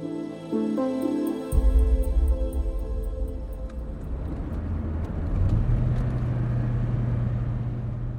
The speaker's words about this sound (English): As we drive out of Al Hol, Farhad stops the car and pulls over.